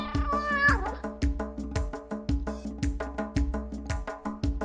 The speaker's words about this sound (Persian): گربه ناز و ملوس هم بچه ها، صدایم میو میو، پیشی هم اسم منه، دوست میشم با آدمو، خودم رو لوس میکنم، میو میو میکنم.